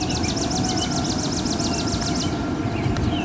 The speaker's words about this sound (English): On a dusty dirt road in the western foothills of the Catskill Mountains, birds chatter in the trees, and faintly in the distance you can hear the Muslim call to prayer.